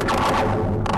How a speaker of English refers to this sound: It's the sound of the bridge moving and vibrating as wind blows through and cars rush by.